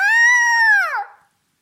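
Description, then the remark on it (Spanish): A single loud, drawn-out cat meow, held steady and then sliding downward in pitch as it fades, heard on its own with no talking. “El gato lanzó un maullido.”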